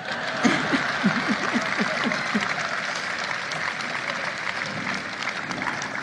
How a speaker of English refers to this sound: Jill was applauding.